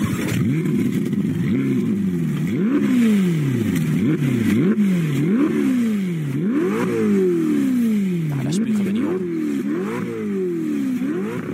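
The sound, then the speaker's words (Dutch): A Ferrari's twin-turbo 3.9-litre V8 engine (620 hp) revs repeatedly after a cold start, its pitch sweeping up and down in quick sawtooth bursts over a steady loud idle, with no one speaking. “Onder de kap ligt gewoon de 3,9 V8 motor met 2 turbo's, 620 pk. Klinkt ook wel lekker.”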